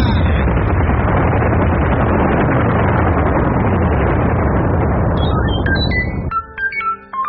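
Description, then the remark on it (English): A sci-fi uranium cannon fires in a loud, continuous roaring blast lasting about six seconds, then cuts off into a scatter of short electronic beeps and chirps. “Lock the portals on the uranium cannon.”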